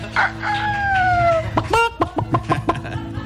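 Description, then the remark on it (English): A rooster lets out a drawn-out crow, then a hen follows with a quick series of sharp, rhythmic clucks, fairly loud with no one talking. “And also, city chickens abound.”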